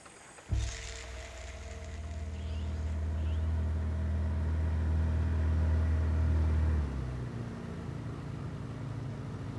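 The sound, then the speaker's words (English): An outboard motor boat engine kicks on abruptly on a shallow river and runs with a loud, steady low drone, then eases back to a quieter rumble near the end. No one speaks. “Well, then we better take the outboard from here on.”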